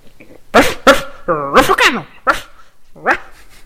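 A person imitates a dog, giving about five loud, raspy barks in quick, uneven succession, with one longer, whiny, yelping bark in the middle.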